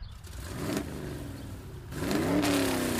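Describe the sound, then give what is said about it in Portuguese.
A car being driven at inappropriate speed on a campus revs up and accelerates, its pitch climbing in rising harmonic sweeps that grow louder toward the end, with a steady mechanical rumble underneath and no voices. “Se você bater esse carro, você tá perdida.”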